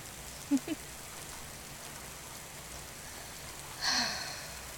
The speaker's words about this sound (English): Me and you in a pickup truck in the rain.